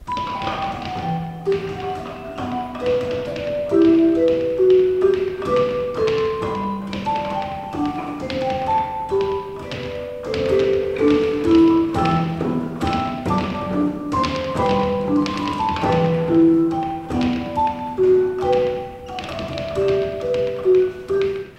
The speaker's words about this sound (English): And you use your hands, closed fists, to play. It's like this. Of course, this is electronic sounds. This is not real bells here on this practice keyboard. And so you're using your hands as well as your feet can play.